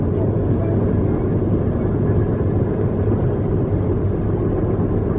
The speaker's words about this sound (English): Car's picking up again. Is that all right? Yeah.